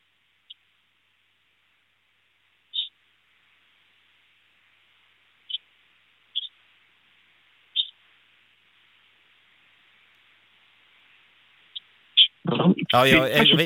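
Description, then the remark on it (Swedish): Sparse, thin chirps from two small pet birds, one sitting on its cage, come through a telephone line with a steady faint hiss, spaced a second or more apart, before a person starts talking at the end. “Ja, vi hör svagt kvitter.”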